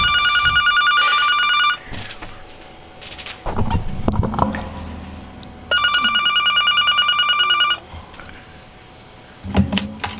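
A telephone rings loudly in two long bursts about four seconds apart, with brief clunks and handling noises in the gap between rings and a short knock near the end.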